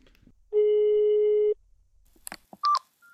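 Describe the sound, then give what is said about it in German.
A loud, steady telephone line tone from a phone call being placed holds one pitch for about a second, followed by a few faint clicks and a second, shorter, higher beep. “Ach, jetzt piept's.”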